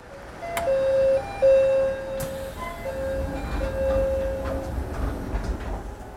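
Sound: train running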